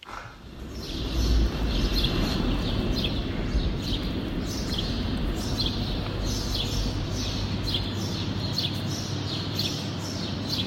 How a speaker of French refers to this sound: Alors vous vous demandez sans doute où on est, eh bien c'est bienvenue à la gare de l'Est, figurez-vous. Les oiseaux ont investi les lieux, on les entend, faut en profiter, c'est exceptionnel.